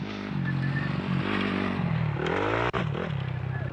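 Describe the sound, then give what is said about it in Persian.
A dirt bike engine revs loudly as a rider practises a jump, its buzzing pitch climbing and falling as the throttle works, with a brief cut before the roar picks back up. “دور بیشتر بگیر، موتورت پر باشه، موتورت مرده نباشه.”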